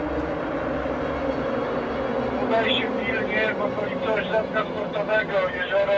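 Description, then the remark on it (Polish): A police motorboat's engine roars steadily throughout as it speeds across the water, a loud, continuous rumble with rushing noise; partway through, voices begin speaking over the engine. “Motorówka szybko przemierza akwen wodny.”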